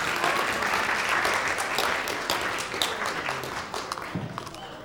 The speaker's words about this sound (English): Give him a clap. Thank you very much.